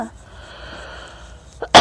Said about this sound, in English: Sorry for the coughing. You guys know I'm smoking.